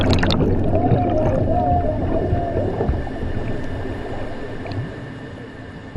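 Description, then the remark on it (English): Heavy churning water and dense bubbling rumble steadily, with a faint wavering whine above, easing slightly toward the end as an escape pod is lowered into the water in clouds of bubbles. “The escape pod is lowered into the water in clouds of bubbles.”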